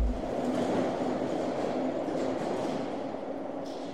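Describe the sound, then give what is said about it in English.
A train rolls steadily along the rails with a continuous low rumble and a faint droning hum, staying at a fairly even, moderate loudness throughout, with no voices. “I was so caught up in the enthusiasm of the event that I ended up missing my train home.”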